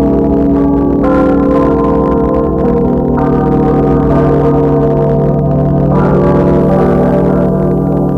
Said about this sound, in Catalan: I mentre això passi, la vostra ànima fugirà, engrossint, entrant a formar part d'aquelles ànimes que cerquen, amb el so de les campanes, el darrer camí cap a l'eternitat.